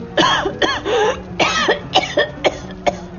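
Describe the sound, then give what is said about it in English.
A boy coughs from thick smoke of a fire drifting in through a window, in a rapid, uneven series of about seven harsh, raspy hacks, fairly loud, with no talking. “Thick smoke drifted in through the window, driven by the winds of the conflagration, and the boy started to cough.”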